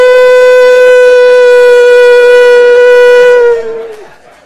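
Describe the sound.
A loud, steady, buzzy TV test-pattern tone, heard after the national anthem at the 2 a.m. broadcast sign-off, holds one mid-high pitch for about three and a half seconds, then dips slightly and fades away.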